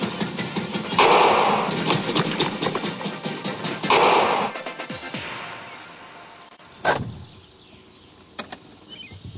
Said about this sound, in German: Nein, irgendwas stimmt mit dem Motor nicht. Er ist ausgegangen. Oh je, eine Panne.